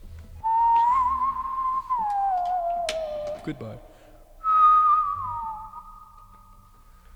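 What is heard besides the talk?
person whistling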